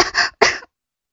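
A 17-year-old girl coughs twice in quick succession after cigarette smoke is blown into her face, two short, harsh bursts, followed by silence.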